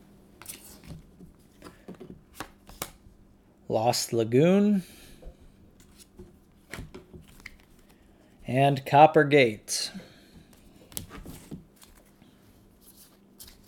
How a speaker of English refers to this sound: Time to flip some cards. Flood cards, and these are the final three.